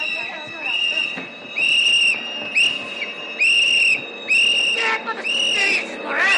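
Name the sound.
train arriving and stopping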